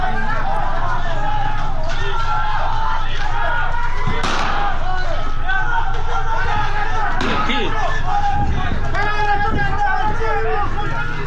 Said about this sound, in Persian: صدای تیراندازی در فولاد شهر اصفهان است به روی معترضین